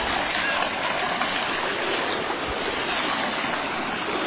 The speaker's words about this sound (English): And there you can see there's another one of the bridges, bridge number 3. And the water is going over that away and making new pathways.